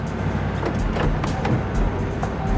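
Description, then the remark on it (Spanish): A car arriving with a couple inside, its engine rumbling steadily at a low pitch, a continuous moderate drone with faint hiss above it and no voices. “Lograron identificar a la pareja que llegaba en un auto.”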